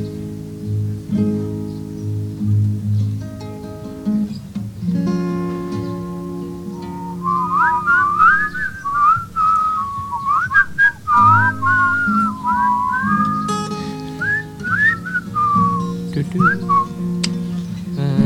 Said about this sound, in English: They bend backwards when she breathes, and it whistles.